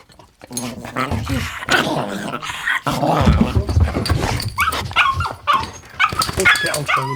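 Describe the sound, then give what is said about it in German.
A dog whimpers and barks in excited bursts, with high whines and short yelps running almost continuously over several seconds, partly overlapping with people talking. “Was heißt mit dem Hund raus?”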